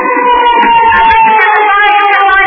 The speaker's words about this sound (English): Well, what is it? Ambulance.